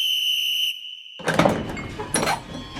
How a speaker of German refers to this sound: Da hören sie einen Pfiff.